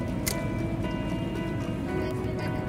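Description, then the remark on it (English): A boat on the water carrying football player Trevor Guyton and a few teammates on a relaxing day out, with a steady droning hum and constant churning water noise running loud throughout, with no voices. “A relaxing day spent on the water, taking part in a favorite pastime, is all Trevor Guyton and a few of his teammates need to forget about the stress of football.”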